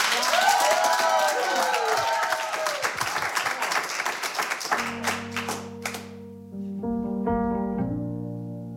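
A crowd claps and cheers loudly for a band for about five seconds, with whoops rising over the dense patter. The applause then thins out as sustained keyboard chords come in and the band's song starts.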